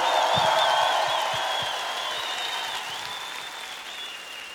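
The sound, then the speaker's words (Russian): A large concert audience at Crocus applauds loudly after a song in a big reverberant hall, a dense wash of clapping with scattered cheers and whistles, slowly tapering but still going strong throughout. “Дайте аплодисментов, Крокус!”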